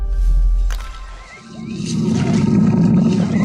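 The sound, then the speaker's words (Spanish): A tiger named Tasima, lying in the shade of a bush, gives a low, gentle roar, a deep rumbling growl that swells and sustains, with no one speaking. “El hermoso tigre se recuesta a la sombra de un arbusto y hace notar su presencia con el rugido apacible.”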